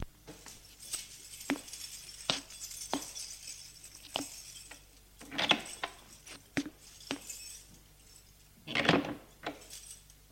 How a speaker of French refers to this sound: Il monte des escaliers en pierre usée. Jusqu'au 3e étage. Prend ses clés et ouvre la porte de son appartement.